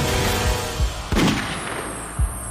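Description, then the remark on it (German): A double-barrelled shotgun fires: a few heavy, booming shots at irregular intervals, one with a sharper crack, over a steady rushing background. No one speaks. “Er hob die doppelläufige Flinte an, richtete sie auf den Rücken seines Freundes und drückte ab.”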